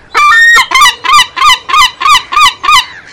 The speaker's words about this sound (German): Jonas, schau mal, die Möwen.